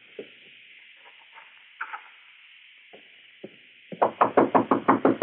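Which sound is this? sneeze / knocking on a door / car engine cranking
knocking on a door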